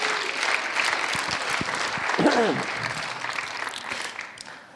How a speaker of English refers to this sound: So, give the Lord a hand clap. Go ahead. Don't be afraid. That's good.